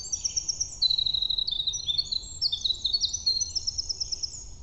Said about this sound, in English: I've got had a hermit thrush sing in and a winter wren just a second ago.